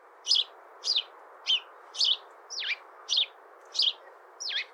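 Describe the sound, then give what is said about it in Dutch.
A house sparrow chirps repeatedly, about eight short, bright chirps at a steady rhythm, clear over a soft background hiss, with no talking. “Wat voor geluid maakt de mus, de huismus? Ja, echt het classic vogelgeluid. Hij tjilpt er wat af.”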